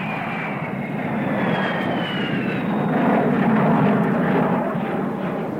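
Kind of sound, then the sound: vehicle, jet airliner engine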